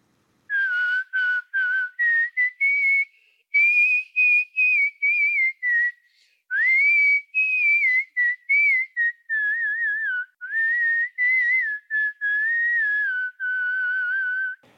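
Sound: human whistling a melody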